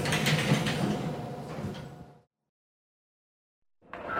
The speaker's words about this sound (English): Please let the passengers off the train first. Mind the doors. The doors are closing.